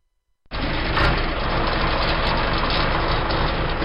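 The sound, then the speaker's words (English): After a brief moment of silence, the 6.1-litre diesel engine of a Kubota M71 tractor kicks in abruptly and idles steadily, a loud, continuous rumble with no voices. “At the heart of Kubota's most powerful tractor ever is a 6.1-litre engine”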